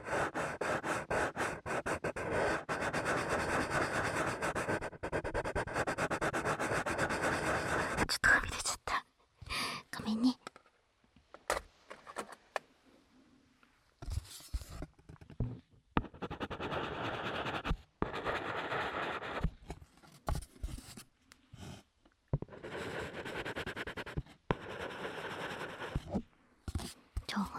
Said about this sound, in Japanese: 色鉛筆って色合いも優しいし、音も優しくていいですよね。